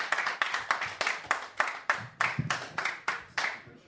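A small audience of about six people claps for a comedian in a steady, even rhythm, about a dozen sharp claps over a few seconds, moderately loud, with no voices over it.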